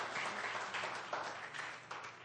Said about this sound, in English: I want you to give the Lord another hand of praise here tonight. What a excited crowd here tonight.